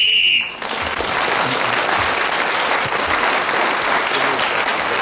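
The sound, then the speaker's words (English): A short, shrill whistle blast in a panel game, blown while Clement Freud was speaking, sounds for about half a second, then gives way to loud, steady applause that carries on without a break for several seconds. “So Clement Freud was then speaking when the whistle went, gained that extra point.”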